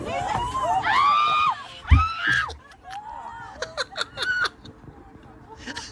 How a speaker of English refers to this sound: Let's hear some screams on a Delta flight as a loose pigeon is snuck its way on board. Here we go.